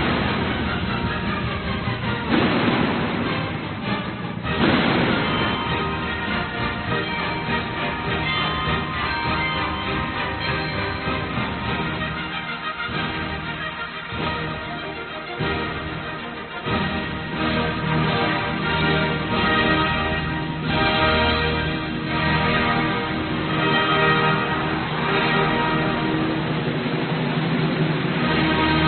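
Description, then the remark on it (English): A full orchestra plays the 1812 Overture loudly and continuously, rich sustained strings and brass filling the passage, with low timpani rolls rumbling underneath and occasional heavier accents marking the phrases. “Now, most of us don't even realize that there's a timpani playing in that.”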